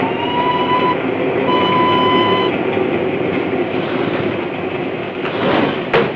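A train rumbles through a tunnel in a loud, steady roar, with thin whistling tones sounding twice early on and a sharp clank near the end.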